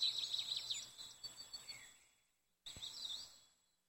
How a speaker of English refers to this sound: You hear a bird take flight somewhere overhead.